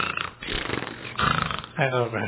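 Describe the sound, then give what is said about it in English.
A fairly loud human voice imitates lions purring, making low, rumbling, throaty growls in three or four drawn-out bursts with no actual words. “And I'm sure he was laying there and they're just purring.”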